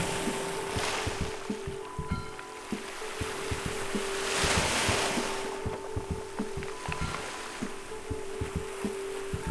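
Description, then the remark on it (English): Ocean waves and wind at the shore make a steady rushing wash that swells louder midway, with a low steady hum and scattered small knocks underneath. No one speaks. “Waves and wind.”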